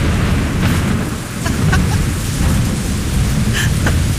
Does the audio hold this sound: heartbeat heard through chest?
no